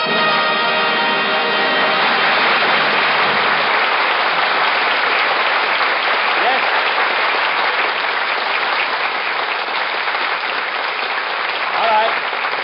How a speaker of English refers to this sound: Take the applause sign down.